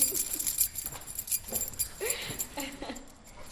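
Keys jingle and clink in a close, bright metallic rattle that comes in short irregular bursts, with some faint background murmur underneath.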